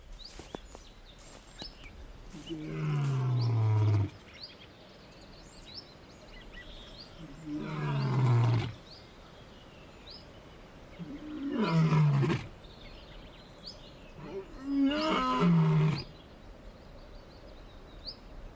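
african lion roaring

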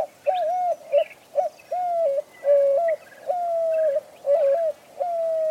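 doves cooing

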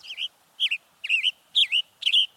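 western tanager call

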